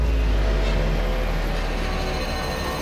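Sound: scooter engine revving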